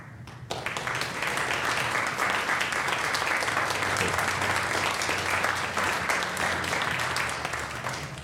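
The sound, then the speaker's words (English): Sustained applause from a large crowd for the greeters, who stand to be recognized: a dense steady wash of clapping that starts abruptly and holds at an even, loud level for several seconds with faint voices mixed in. “If you're a greeter, if you could stand so we can give you a round of applause, that'd be amazing.”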